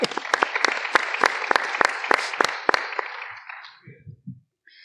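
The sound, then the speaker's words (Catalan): A few seconds of audience applause for two people who have never seen a Star Wars film: a dense wash of clapping with several sharp, loud claps standing out in a rough rhythm, fading out toward the end as a low voice briefly murmurs. “Un aplaudiment per elles. Bravo!”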